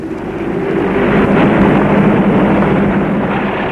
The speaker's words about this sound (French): Et le camion est parti.